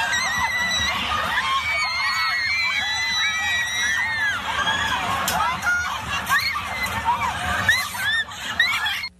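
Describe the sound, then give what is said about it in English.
A dense crowd in an arena screams and shouts in panic over a possible bomb, many overlapping high-pitched cries rising and falling continuously, loud, with a constant rumble of agitated voices beneath. “everyone was just screaming and shouting, saying that it could be a bomb.”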